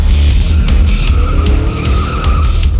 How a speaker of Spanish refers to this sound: Un auto hambriento de sangre dobla la esquina quemando llantas.